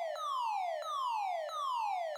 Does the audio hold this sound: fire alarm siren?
yes